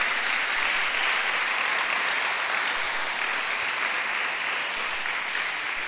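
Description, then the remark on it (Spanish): An audience at a church service applauds steadily, giving an applause to the King: a dense, even wash of many hands clapping that holds at a constant loud level for several seconds with no voices standing out. “Le damos un aplauso al Rey.”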